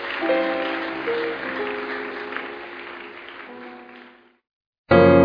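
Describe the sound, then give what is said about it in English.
A Koinonia ministry audience claps steadily for about four seconds over a tonal musical backing, honoring a departing group. The clapping then fades into a brief silence before a loud burst of sound cuts back in. “Let's keep clapping.”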